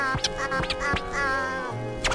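A bird gives a series of loud, nasal duck-like quacks, about five raspy calls at irregular intervals, with no talking.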